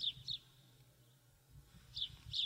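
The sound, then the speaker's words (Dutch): Birds sing outdoors at a very quiet place, in short, bright chirping bursts, a couple at the start and a couple near the end, over a quiet low rumble with a calm pause in between. “Men hoort hier de vogels fluiten en af en toe een klok.”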